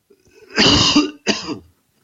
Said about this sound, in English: You sent us some recordings that people submitted to your research team. First, here's a wet cough.